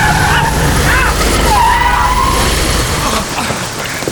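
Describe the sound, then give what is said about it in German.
A car roars in loud, its tires letting out a long, high screech as it skids toward a boy riding a bicycle in the rain, before the noise drops off at the end. “Vorsicht, Junge! Das Auto!”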